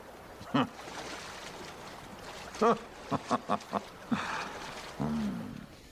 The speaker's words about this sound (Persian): چه رودخونه ی قشنگی.